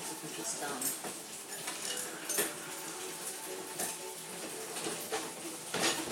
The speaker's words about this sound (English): Now I'm just putting things in the dishwasher.